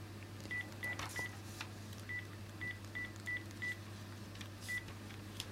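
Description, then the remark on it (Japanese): A phone keypad being dialed to place a call on a holiday afternoon: about nine short, even beeps in uneven bursts, fairly clear over a steady low electrical hum, with no voices. “アックに電話してみようか。”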